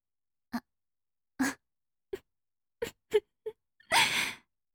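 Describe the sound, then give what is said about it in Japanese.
A string of short, breathy gasps and sniffs, then one long, loud, airy yawn that swells and slowly trails off at the end. No one speaks. “おっきくて、かわいいあくび。”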